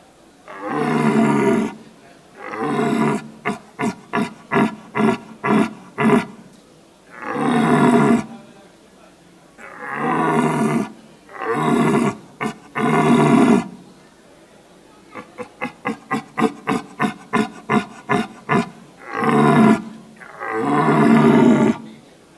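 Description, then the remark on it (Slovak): Deep, bellowing roars from red deer stags in the rut, long drawn-out calls alternating with series of short, rapid grunting bursts, loud, with no talking. “Takže tie jelene si nadávajú, zhusta si nadávajú skrátka a väčšinou to pomôže a ten druhý jeleň teda na to rujovisko nepríde a neobťažuje toho druhého jeleňa.”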